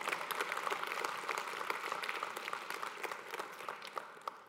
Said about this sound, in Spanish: Alguien ha creído en Jesús. Levántale un fuerte aplauso al Señor.